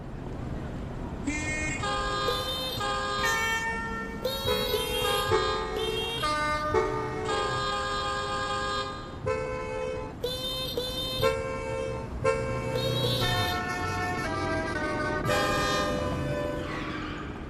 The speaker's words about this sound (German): So, eine Hupe haben wir noch. Jetzt gibt es noch mal so ein Hupkonzert in der Großstadt und wir fragen jetzt noch mal, so wie beim ersten Rätsel, welches Lied wird jetzt hier gehupt?